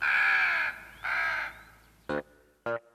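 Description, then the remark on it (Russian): Several black crows circling overhead caw: two long, harsh calls followed by two shorter, sharper caws, loud, with a faint background hiss between them. “Над ним кружило несколько черных противных птиц.”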